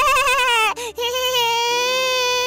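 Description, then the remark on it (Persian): A voice imitates the smallest young goat crying as it hugs its mother goat: a loud, quavering wail held for over two seconds, broken by two quick catches of breath near the middle. “و تو همین حین کوچیکترین بزغاله از ساعت بیرون اومد و مامان بزی رو بغل کرد و گریه کرد.”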